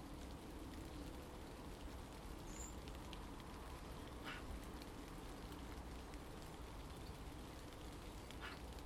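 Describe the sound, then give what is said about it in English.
On a calm, still morning, light rain falls in a soft, steady patter, with a few sharper drips standing out and a single brief high chirp early on. No one speaks. “A calm, still morning, light rain, fresh air, refreshing droplets on my head, and my cup of tea.”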